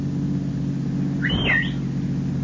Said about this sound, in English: As he drives along in his car, he sees Nick Havens.